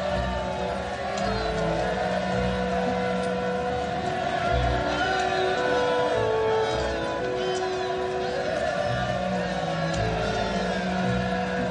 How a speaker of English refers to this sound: The crowds that went ahead of him and those that followed shouted, "Hosanna to the Son of David!"